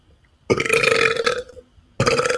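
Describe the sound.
A person performs a fake burp in a contest for the grossest fake burp, a long, loud, throaty vocal belch, then starts a second forced burp right after a brief pause, with no other sounds.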